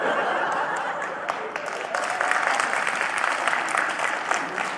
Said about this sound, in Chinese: 老哥四个还鼓掌呢，好学问呐，好学问。